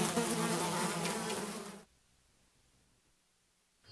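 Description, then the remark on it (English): Loud, dense buzzing of flies drones steadily for about two seconds, then cuts off abruptly into near silence. “East Africa Diet may cause hallucinations, extended belly, tight skin, bulging eyeballs, impotency, reduced desire to survive, and flies on face.”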